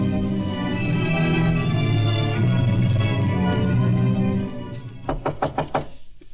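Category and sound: impact, knocking on a door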